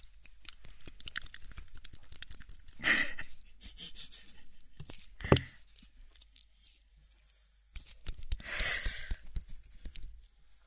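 Soft, wet squelching and sticky crackles from stretched, squished slime, with a few louder smacking bursts scattered through otherwise quiet, textured handling noise; no one speaks.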